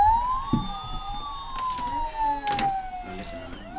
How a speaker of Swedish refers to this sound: Titta, det brinner i huset. Ja, brandbilen kommer.